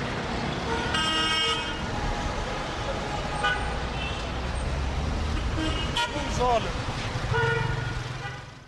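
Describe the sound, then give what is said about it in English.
Several car horns toot in bursts over a steady roar of busy street traffic, including taxis and buses, on the streets of Cairo, Egypt, some loud, while a person talks over the din. “Many of the taxis and buses running on the streets of Cairo are very old and emit dangerous levels of gas and fumes into the air.”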